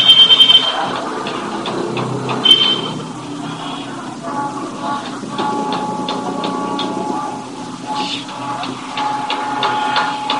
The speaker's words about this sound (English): Picking up other sounds? That's the bell. Sorry.